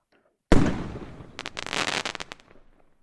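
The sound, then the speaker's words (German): A sudden bursting pop, like buds splitting open, gives way to a dense, rippling crackle of unfolding leaves that flutters for about two seconds and then fades out. No voices. “Die Knospen platzen und Blätter entfalten sich. Das knistert ganz leise.”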